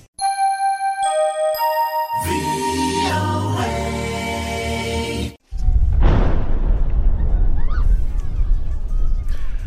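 large explosion

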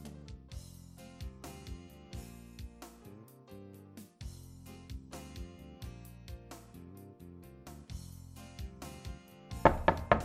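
knocking on a door

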